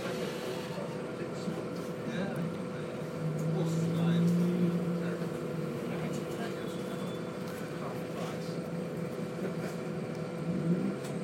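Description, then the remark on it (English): Steady engine rumble and hum inside a moving bus, with the motor rising briefly in pitch as it accelerates, plus faint indistinct background murmurs throughout. “So I'll wait and you can have a bit of bus atmosphere, and then I will pause it and get back to you in a bit.”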